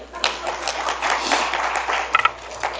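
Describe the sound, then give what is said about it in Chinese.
A crowd claps for nearly three seconds, a dense steady patter of many hands with no voices over it, plus a low hum running underneath, applauding someone who has just recited Isaiah 40:8 from memory. “啊，对了，就是这样子，给他拍拍手吧。”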